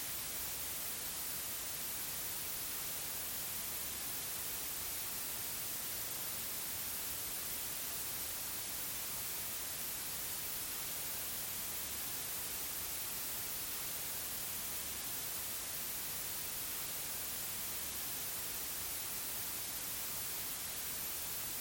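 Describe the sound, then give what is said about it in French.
A steady, continuous hiss of white noise fills the whole recording, even and unchanging from start to finish, fairly quiet with bright high-end energy and no voices. “et écoute comment le bruit blanc répond.”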